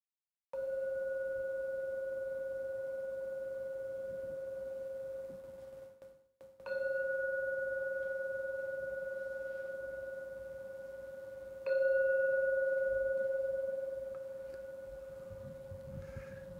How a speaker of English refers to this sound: I'm now going to ring the gong 3 times. And please wait for the third ringing of the gong to vanish before opening your eyes to finish the meditation period.